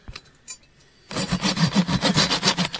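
After a brief pause with a couple of faint knocks, a hand saw rasps steadily through a wooden beam in quick, even back-and-forth strokes, loud, about nine strokes continuing to the end, cutting the beam through.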